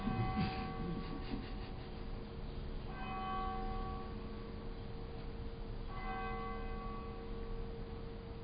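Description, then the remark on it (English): A church bell tolls three slow, evenly spaced strikes about three seconds apart, each ringing out with a long, shimmering decay, with no voices present. “For whom does the bell toll?”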